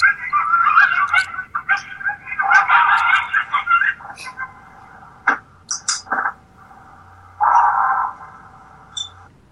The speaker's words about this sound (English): So what we hear the coyotes yipping. We hear them yipping away, and then all of a sudden we hear what sounds like some sort of a yell, like a rawr, like that.